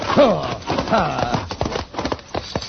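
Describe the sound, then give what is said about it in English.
A team of horses runs hard pulling a stagecoach, with quick clattering hoofbeats and rattling wood, loud, while voices shout over the commotion; the driver is urged to keep the team straight, with a horse, Thunder, alongside the wheel horse. “Driver, see if you can keep that team straight, will you? All right, alongside that wheel horse, Thunder.”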